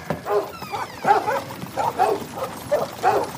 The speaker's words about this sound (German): So bellen sie nur, wenn Fremde auf den Hof kommen.